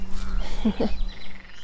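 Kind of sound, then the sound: animal, frogs croaking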